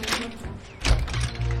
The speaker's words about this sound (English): Now, she moves the lounge chair from in front of the door and opens it.